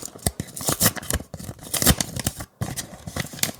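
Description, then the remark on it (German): An envelope is torn open in a series of crisp, crackling paper rips, steady for a few seconds with a brief pause near the end before the tearing resumes. No one speaks. “Da ist wieder ein Umschlag.”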